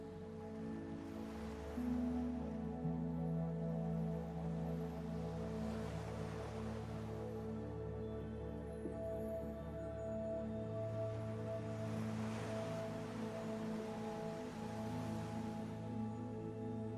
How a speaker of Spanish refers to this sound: Deja que las olas del mar te relajen, que el ritmo de esta marea mece tu cuerpo.